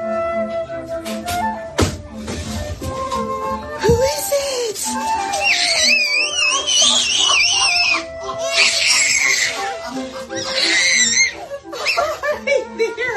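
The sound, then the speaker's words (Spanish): High, wavering little squeals and shrieks of joy from a baby as his grandmother arrives, bursting out repeatedly in excited clusters, loud, with some adult voices and background noise mixed in. “Yo creo que, con todos los respetos a los psicólogos del estudio, con solo esos gritillos de alegría, de desparrame, queda claro lo que”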